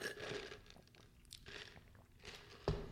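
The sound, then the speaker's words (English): Sputtering slurps of someone drawing the last of an iced Americano with a little cream through a straw, several rough gurgling bursts with faint ice rattle, ending in a sharp clack. “I'm gonna get a little sip of. Well, I'm running out of coffee.”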